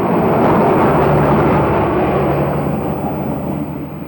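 A pickup truck's engine rumbles loud, a steady broad roar that eases slightly as the vehicle, Smith's truck, pulls in. No one speaks.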